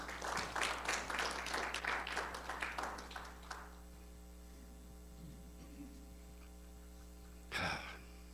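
A church audience claps hands in a quick burst of overlapping applause for a few seconds during a service, then it fades into a steady low hum, followed by a brief breathy exhale or sigh.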